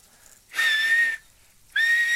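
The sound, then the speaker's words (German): Two sharp, breathy whistles from a person, each a steady high tone held for about half a second, separated by a short pause, with no talking. “Na, dann können Sie vielleicht pfeifen?”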